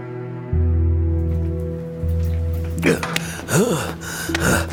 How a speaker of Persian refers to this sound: عجب بارونیه.